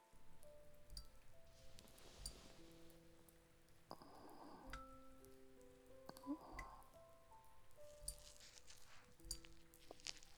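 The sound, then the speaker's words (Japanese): Drops of leaking rain fall indoors in an abandoned building one by one, plinking onto hard surfaces and containers with clear, bell-like pings at an irregular pace over a soft steady patter. “廃墟だから雨漏りは仕方ないんだけど、こんな楽しみ方もあるんだよ。”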